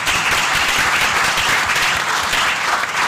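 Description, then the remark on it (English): An audience breaks into sustained applause to thank the event's supporting organizations, a dense, steady patter of many hands clapping at an even loudness throughout, with no voices standing out. “But maybe a round of applause would be appropriate.”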